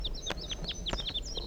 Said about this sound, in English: So recording, I'm on my way down the hill and I've met up with crossbills, perhaps the same birds as before. Yeah, looks that way.